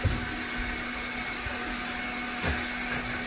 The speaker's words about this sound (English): He's 4 feet away from where these guys are operating a wet saw.